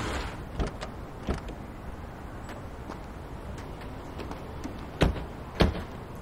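Car doors opening and thudding shut as people climb out of a car stopped in a driveway, with a couple of softer knocks early on and two louder slams near the end over a faint outdoor hush.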